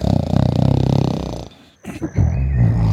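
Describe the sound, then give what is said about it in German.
Loud, heavy snoring of a giant: a long rattling snore, a brief pause, then another deep rumbling snore that carries on to the end. “Und dann fängt er an zu schnarchen.”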